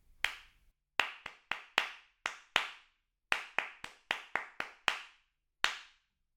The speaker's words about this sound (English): Test 2, clapping back rhythms. I shall count the pulse and then clap a rhythm. You clap it back immediately after you hear it.